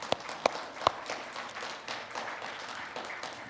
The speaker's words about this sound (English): Let's give the praise team a round of applause.